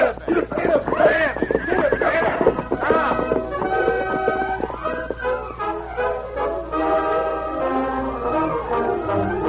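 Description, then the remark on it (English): A horse neighs loudly, letting out a series of shrill, wavering whinnies that rise and fall for several seconds with hardly a pause. “There, let's move the horse.”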